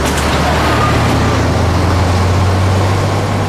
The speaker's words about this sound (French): Attention, Tintin ! Un camion !